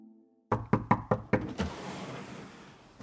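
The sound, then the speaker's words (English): A police officer knocks on the door of a house: a quick, firm series of about six evenly spaced knocks, followed by a fading tail and quiet background. “A police officer knocked at the door.”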